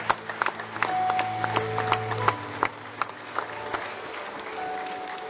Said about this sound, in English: We're going to cheer you on as you come. Let's give them a big, big hand clap as they're coming.